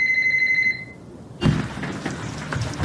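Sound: telephone ringing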